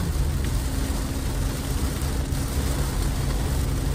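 nature, heavy rain falling

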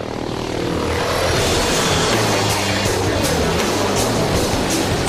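vehicle, military helicopter flying

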